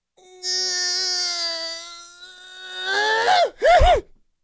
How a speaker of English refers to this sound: would you like to yawn in that chair?